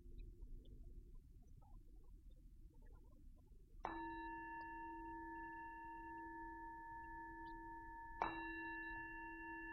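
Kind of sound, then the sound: signal or alarm, bell ringing and fading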